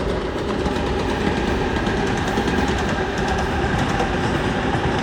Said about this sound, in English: I wasn't going to record, but a train's coming and I figure only Mongolia would have this kind of train. Oh, it's a little one.